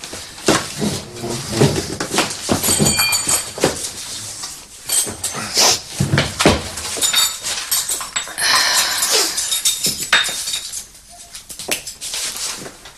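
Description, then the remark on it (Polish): Broken glass being cleaned up: repeated sharp clinks and tinkles of shards, mixed with scraping and clattering as pieces are swept and gathered, continuing in uneven bursts throughout. “Posprzątaj szkło.”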